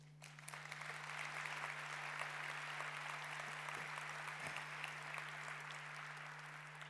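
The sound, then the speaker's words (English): An audience claps warmly and steadily to welcome a speaker, a dense wash of many hands that swells early and holds at an even level before easing slightly at the end, with a low steady hum underneath. “And with that, please give a warm applause”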